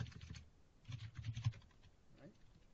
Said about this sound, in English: So I'm just typing in JSON here